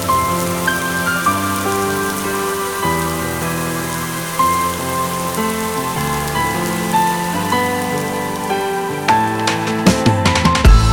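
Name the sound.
light drizzling rain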